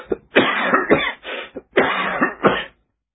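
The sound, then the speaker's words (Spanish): A fit of heavy, hacking winter coughs in two rough bursts, each cluster of harsh coughs running together with barely a pause, loud, then silence. “Una tos tremenda que no podía parar.”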